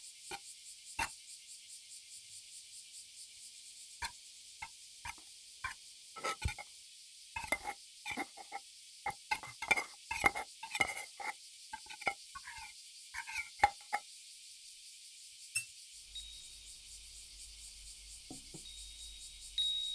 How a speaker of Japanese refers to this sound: さすがニャンタさんですな。もりもり食べてるし、モフモフの毛皮でも夏バテせずに食欲旺盛。